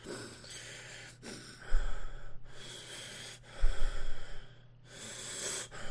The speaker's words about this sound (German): man hört es hier gerade wieder sehr gut, dieses Schnaufen dazu. Also er macht sich nur diese Schnitte da oder dieses Brötchen, ne, mit Marmelade oder was auch immer das ist und du hörst wirklich im Hintergrund diesen.